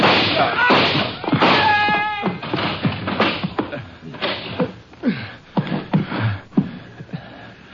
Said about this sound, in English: Let's kick a hole in this door.